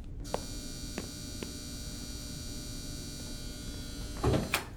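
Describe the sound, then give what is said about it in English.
A door entry buzzer drones with a steady electric buzz throughout, with a few small clicks, then the door latch releases with a short clunk near the end. No one speaks. “I'll buzz you in immediately.”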